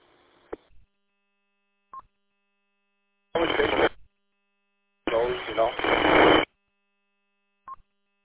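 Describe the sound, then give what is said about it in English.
Radio static in short bursts on a ham radio transmission through a repeater: two loud hissy crackling blasts of about a second each, separated by silence, with a few brief faint clicks and beeps between them. “Yeah, I heard some static that time.”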